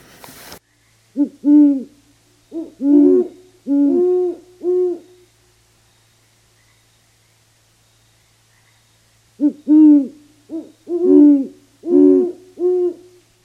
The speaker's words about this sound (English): With its long ear-like tufts, intimidating yellow-eyed stare, and a deep hooting voice, the great horned owl is our most easily pictured owl.